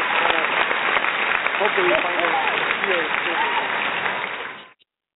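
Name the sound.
applause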